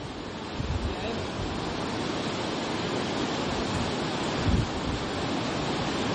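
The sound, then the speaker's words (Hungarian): Roaring storm-force wind buffets the microphone over a loud, steady wash of huge lake waves crashing over the public beach at Fonyód, where the water stands knee-deep, with heavier gusts thumping through at intervals. “Viharos erejű szél, hatalmas kicsapó hullámok, és gyakorlatilag térdig érő víz jellemzi a Szabadstrand területét.”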